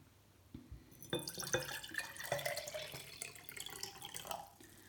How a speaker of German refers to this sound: So, in das dritte Glas kommt Salzwasser. Also ein bisschen Wasser.